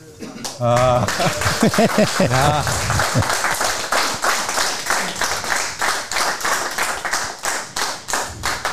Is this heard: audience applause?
yes